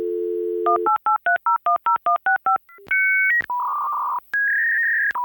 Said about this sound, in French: Maintenant même, tu appelles puis tu parles à personne. C'est ça. Tu téléphones à une compagnie X, puis là, il faut que tu appuies sur 11 boutons.